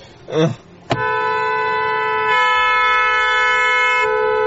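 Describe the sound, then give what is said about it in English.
A brief voice sounds, then a loud car horn blares in one long, unbroken honk that holds steady for several seconds until the end, as the driver keeps pressing the horn. “Jeffy, get off the horn”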